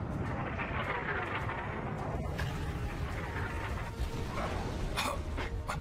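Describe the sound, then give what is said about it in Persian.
A torpedo launch and underwater explosion as the torpedo is fired at a point on a slipping seabed slope: a loud, dense, muffled roar rumbles throughout, broken by a couple of sharp bursts, with no voices. “وقتی اجدر با نقطه سمت رانش بستر دریا برخورد کرد باید سریع حرکت کنیم. شلیک اجدر اول.”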